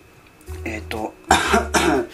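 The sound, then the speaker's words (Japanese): Two bursts of coughing, a lighter hacking cough followed by a louder, harsher one with throat-clearing rasp. “ちょっと咳が出るんですいませんね。”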